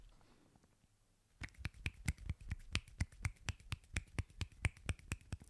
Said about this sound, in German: Ich klatsche es mal mit einer Hand und die Hörer müssen raten, ob links oder rechts.